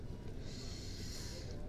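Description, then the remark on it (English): A heavy breath drawn through the nose: one long, airy rush lasting about a second, over a steady low background hiss. “My nose breathing down your shaft.”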